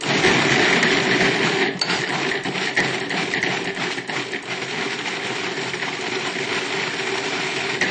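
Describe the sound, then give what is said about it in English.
A food processor runs steadily for the whole stretch, a loud, dense motor whir with a gritty, rattling churn as it blends a mixture of water, vanilla powder, coconut butter and pineapple. Nobody speaks over it. “And we process again.”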